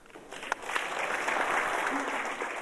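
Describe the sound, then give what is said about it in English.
A crowd in Parliament applauding steadily after a speech about AIDS, dense overlapping claps building quickly after a few sharp early claps and holding at a fairly loud, even level throughout. “that's a lot of applause, it sounds like to me.”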